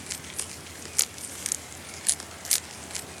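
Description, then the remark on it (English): A quokka, sitting back on its hind legs and holding a leaf in its front paws, chews the leaf: crisp crunching and munching with several sharp bright bites spaced irregularly over a soft, steady background hiss. “And it's holding a leaf in its front paws, munching away. Munch, crunch.”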